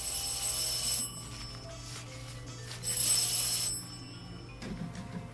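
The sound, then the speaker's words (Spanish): A landline extension telephone on a terrace rings in two bell-like bursts separated by a pause, its bright jangling tone clear. Steady low background hum underneath, no one speaking. “Es el teléfono de la terraza, qué inoportuno.”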